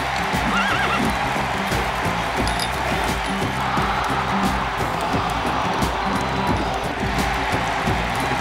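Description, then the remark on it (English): Galloping horses pulling chariots around the circular part of a Roman arena in Africa pound out a fast, steady rhythm of heavy hoofbeats, with whinnies and neighs breaking through, loud and continuous from start to finish. “There would have been thousands of people up along these bleachers, and then down here the chariots would have roared around this circular part.”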